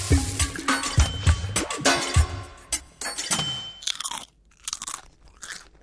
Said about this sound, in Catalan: Patates fregides. Patates rosses. Aquest soroll, el crec-crec, és el paradigma perfecte del cruixent. Una pasta de full cruixent no peta igual. Unes crispetes, tampoc. Aquest és un dels secrets de l'èxit de les patates rosses de bossa.